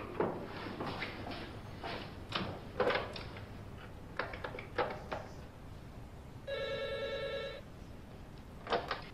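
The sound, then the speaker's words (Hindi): A single electronic telephone ring, about a second long, sounds as a phone call is placed, after a series of sharp clicks and knocks like a receiver being handled. No voices, and the ring is steady. “Phone करिए।”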